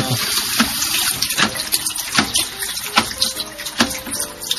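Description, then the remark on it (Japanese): Warm water runs steadily from a tap into a container to rinse photographic film, a continuous splashing rush with small irregular spurts and sloshes, with no one speaking; the water turns slightly reddish from anti-halation dye dissolving off the film base. “海水洗をしているお湯に、ちょっと赤っぽい色がつくんですね。”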